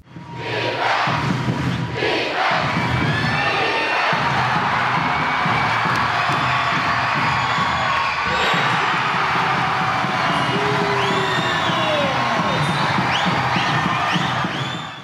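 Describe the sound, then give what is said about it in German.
A loud basketball crowd roars and cheers continuously for about fifteen seconds at a game Göttingen won 96-90 after a decisive late steal, with shrill whistles and high-pitched shouts rising over the dense wall of noise. “Den Rest der Geschichte lassen wir gerne das Publikum erzählen.”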